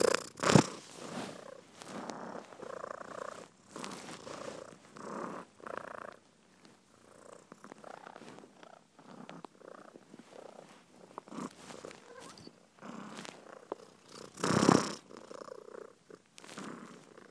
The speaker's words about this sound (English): I mean, all cats quite like their dinner, but Maya is extraordinarily greedy. She's worse than any Labrador. And she makes a right racket when she purrs, especially when she's getting hungry, like this.